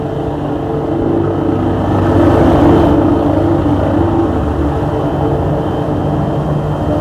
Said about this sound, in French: Les hélicoptères sont partis et sillonnent la ville de Paris.